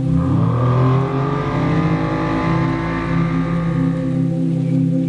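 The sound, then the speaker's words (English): Powerful racing boat engines roar and rev loudly and continuously, their droning pitch rising and wavering over several seconds, with no voices. “Absolutely boat race.”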